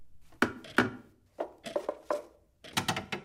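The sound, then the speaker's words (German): A wooden corner bench creaks and knocks in about ten sharp, irregular bursts, some with a short groaning tone, and quiet pauses between them, with a clock ticking, at a kitchen table in an apartment; no one speaks. “Wir hören die Uhr ticken und die Eckbank knarzen.”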